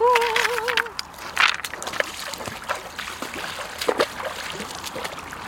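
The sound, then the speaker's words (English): Irregular splashing and sloshing of someone in a wetsuit wading into cold sea water, with a wavering vocal exclamation at the start and uneven watery surges continuing throughout. “When it all gets too much, I reach for my wetsuit and I try to wash some of those worries away.”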